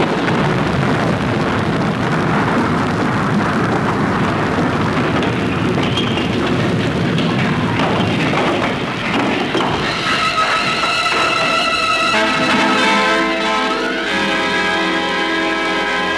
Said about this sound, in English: bricks, a clap of thunder, add a plane crash at the wrong speed, drop in a pinch of music, stir well on a recording turntable, and what have we? A noise from Flinders Lane, a plane crashing, an ordinary thunderstorm, and the temple crashes on Samson.